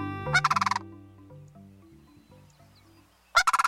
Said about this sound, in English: It's late winter, and cranes are calling loudly to one another.